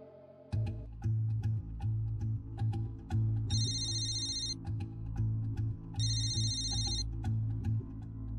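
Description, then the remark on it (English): A telephone rings for Detective Seduth of the Grant Parish Sheriff's Office, in two bright, warbling electronic bursts, each about a second long with a pause between, over a steady low droning background and occasional clicks. “Nine months after Betty moves in, Detective Seduth of the Grant Parish Sheriff's Office receives a phone call.”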